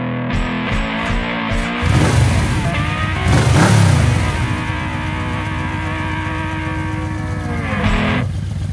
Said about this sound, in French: Il y a qu'à Kikinko qu'on a des bruits de moteur aussi jolis que la musique qui passe à côté.